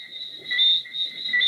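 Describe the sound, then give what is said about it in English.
A steady, high-pitched drone of crickets fills the green rural countryside of Barbados, about a half hour's drive from Bridgetown, continuous, with a faint low rustle of outdoor ambience underneath and no one speaking. “There's vegetation everywhere, palm trees, fruit, rich soil, the sounds of birds and crickets.”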